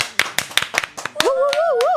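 An audience claps loudly to welcome the guest artist of the week, in a quick, steady rhythm of sharp slaps, joined midway by a high warbling, wavering tone that rises and falls while the claps continue.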